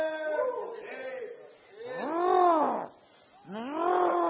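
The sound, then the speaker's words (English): A voice imitates a lion roaring in a sermon about Daniel in the lions' den: three loud, drawn-out growling roars, each swelling and falling in pitch, with brief gaps between them. “That's all you can do is roar, buddy.”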